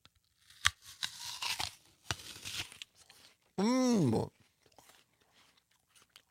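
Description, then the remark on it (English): A sharp, crisp crunch as teeth bite into an apple, followed by several seconds of loud, wet crunchy chewing, then a short hummed vocal sound of enjoyment. “So forgive us for eating in front of you, but listen to this pop.”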